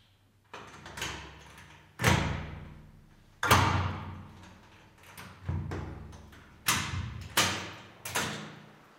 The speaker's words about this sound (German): Und da ist die Tür wieder offen. Das klingt auch schon anders als zu Hause, die Zimmertür. Definitiv, ja. Also da weiß man, wenn zu ist, ist auch wirklich zu.